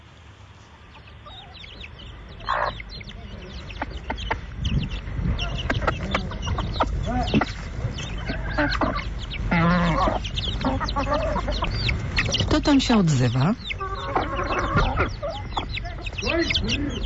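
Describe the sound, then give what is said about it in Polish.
Chickens clucking and squawking in a busy chorus, including a broody hen and small birds, with repeated harsh calls and a rooster-like cry rising over a noisy farmyard; a voice briefly speaks near the start. “Ptaki. Ptaki, tak.”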